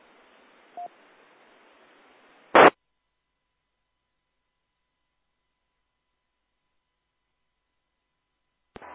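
Hiss of radio static with a short faint tone, cut off by a sharp, loud signal burst, then silence until another brief crackle of noise returns at the very end.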